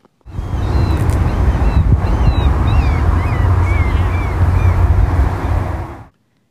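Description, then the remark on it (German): Thin, wavering gull cries repeat several times in a town in Alaska, over a loud, steady low rumble of water, wind and boat engine noise that fills the whole recording. No one speaks. “Möwen. Ja, gut, ich gebe zu, das könnte jetzt auch wirklich in jeder Stadt oder Hafenstadt sein.”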